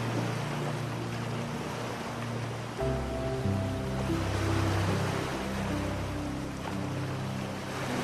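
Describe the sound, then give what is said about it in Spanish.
A continuous wash of ocean waves fills the background at a steady, moderate level, joined partway through by soft, sustained musical tones layered over the surf. “Y cuando estés preparado o preparada, déjate llevar con el sonido de las olas hacia un sueño reparador y profundo.”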